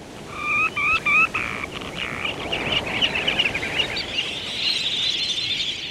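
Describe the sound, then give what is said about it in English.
Sandpipers and plovers, small to medium-sized shorebirds, call while running along the retreating wave edge of an ocean shoreline: a few sharp, repeated whistled notes open, then a steady stream of high, thin twittering over a constant wash of surf-like background noise. “Almost any time of the year when you visit the ocean shoreline, Pacific, Atlantic, or the Gulf of Mexico, you're likely to find a batch of sandpipers and plovers, small to medium-sized birds running along the retreating wave edge”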